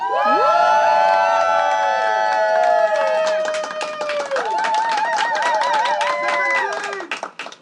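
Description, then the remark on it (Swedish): A live crowd on a balcony in Solna, Sweden, cheers and whoops with high, overlapping voices after the host asks for hype and applause, then a burst of dense, rapid clapping builds in under the shouts and carries on loudly before tapering off at the end. “Kan jag få lite hype? Applåder.”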